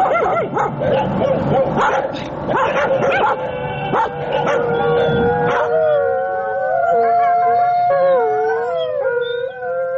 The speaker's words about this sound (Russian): Воют бездомные собаки в писательском поселке Переделкино. Воют и бегают стаями по улице Гоголя, по улице Серафимовича, по улице Павленко. Кажется, они тут единственные жители.